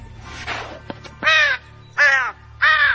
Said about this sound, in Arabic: هذا كلب ولا غراب؟ أول مرة أشوف غراب يشمشم كذي.